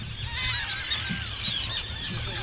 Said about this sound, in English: Hundreds of screeching gulls and terns circle overhead.